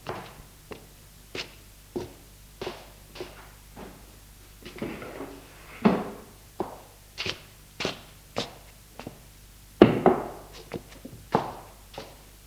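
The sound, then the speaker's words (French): A long run of dull knocks on a door at 9 p.m., made by the speaker's brother, evenly spaced at a steady walking-pace rhythm, with a couple of louder, heavier thuds partway through and no voices. “L'on frappe à la porte.”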